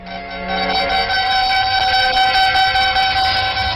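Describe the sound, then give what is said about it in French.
Air raid sirens wail continuously in Stockholm, warning the population to hurry into underground shelters, in loud, overlapping sustained tones that swell in within the first half second and hold steady throughout, with no voices present. “Pendant que des abris souterrains sortent les escadrilles de défense, la population, avertie par le cri des sirènes, se précipite avec discipline dans des abris creusés à 30 mètres sous terre”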